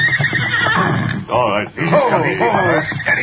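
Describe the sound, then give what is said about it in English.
A cayuse horse whinnies loudly in two quavering, high-pitched bursts after a rough, breathy snort, the pitch wobbling up and down through each cry. “Oh, steady, you crazy cayuse.”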